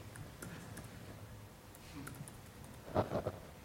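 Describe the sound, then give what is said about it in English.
Soft, irregular keystroke clicks from a UK computer keyboard as someone types to log in, quiet, with a brief louder cluster of taps near the end and no one talking. “This is a UK keyboard, so I hope that”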